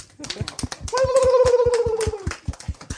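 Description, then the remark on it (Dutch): A group applauds itself after singing Ave Maria, clapping in a quick, steady patter of sharp hand claps for about three seconds. A sustained voice briefly cheers over the middle of it before the clapping continues. “Een applaus voor onszelf.”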